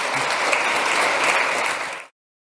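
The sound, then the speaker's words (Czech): Dense audience applause for the panelists from Škoda Group, Hopi Holding and Škoda Auto at the close of a panel discussion, many hands clapping steadily and fairly loudly for about two seconds before cutting off abruptly into silence. “Já myslím, že si zaslouží potlesk, že jenom byli na konci.”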